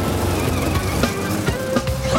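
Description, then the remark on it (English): A car engine roars steadily, with a brief rising squeal toward the end as the vehicle swings through a sharp turn at speed while being pursued by a Beetle. “Noah turns another corner with Zipporah on his tail.”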